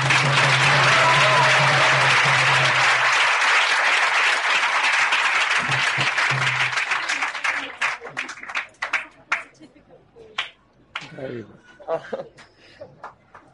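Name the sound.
round of applause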